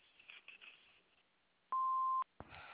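A single steady electronic beep from the answering machine of a private home phone, a pure tone lasting about half a second over a faint hiss, signalling the start of recording, followed by a brief click and noise.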